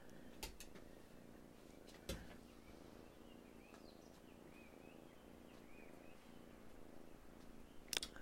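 kitten purring

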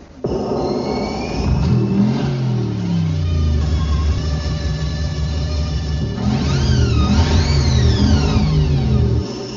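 engine revving

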